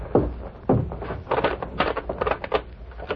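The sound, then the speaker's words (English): A private door is unlocked and opened: two heavy thuds from the lock, then a run of rattling, clicking handle and latch noises before a final knock as it swings. “Do you have to hold a conference before you open the door?”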